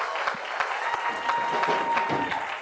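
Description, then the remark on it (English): An audience at an evening church service applauding themselves together, a steady wash of many hands clapping at a moderate level for a few seconds, with no voices standing out above it. “Come on, give yourself a hand clap tonight.”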